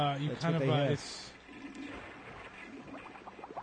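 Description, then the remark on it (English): A rushing, gurgling water sound like a toilet flushing, the liquid effect of the computer game Liquid War, swells after a brief voice and carries on steadily at moderate loudness, with faint speech-like murmurs beneath it. “It sounds like a toilet going on.”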